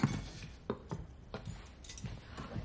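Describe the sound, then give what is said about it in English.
A drinking glass is set down on a table as dinner is served, followed by a few soft, scattered clinks and taps of tableware, with no one speaking. “raises his glass but just sets his glass down and proceeds to serve the dinner.”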